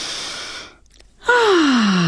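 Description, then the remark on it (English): A deep breath during a conscious breathing practice for stress relief: a long airy inhale, a brief pause, then a loud exhale that becomes a voiced, downward-sliding sigh. “You'll hear me breathing audibly from time to time.”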